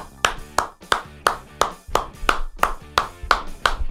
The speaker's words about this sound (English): a Wimbledon tennis clap. Wow. For that performance.